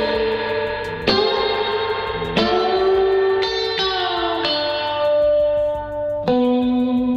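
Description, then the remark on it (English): Several sharp drum hits ring out, each trailing into a long, shimmering, metallic spring reverb tail that washes over the next. It's loud and drenched in effects, with no voices. “You know, you hear that spring reverb when I was playing you before after the drum kicks.”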